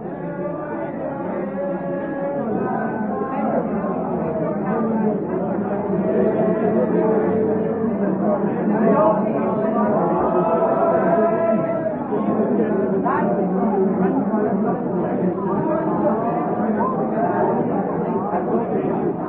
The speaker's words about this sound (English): Now here's a crowd from Cork singing. They'll just sporadically start singing. Just turn that up and you'll hear the sound of an Irish pub going full blast.